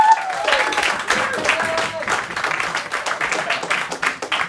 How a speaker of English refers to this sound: Can I get another round of applause